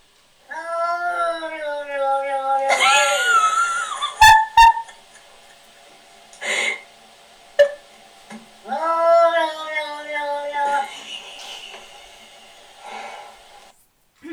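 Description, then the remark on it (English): A sphynx cat yowls and meows in long, wavering harmonic cries, with a few sharp hissing bursts and snorts in between, loud, then quieter whines trailing off, as its owner, dressed as a wolf, crawls along the floor towards it. “when its owner dresses up as a wolf and crawls along the floor towards it”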